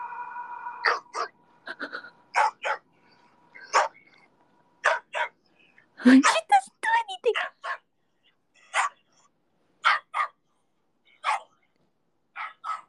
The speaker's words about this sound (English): This is like a video of dogs barking.